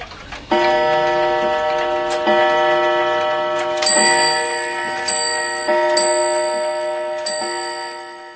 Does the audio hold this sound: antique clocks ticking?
yes